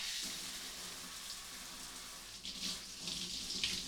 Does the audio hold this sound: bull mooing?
no